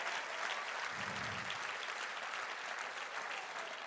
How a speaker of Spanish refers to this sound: Y a Dios hay que reconocerlo, hay que honrarlo, hay que darle lo que sea que Él nos pida. Si ese es el aplauso, dáselo mejor al Señor.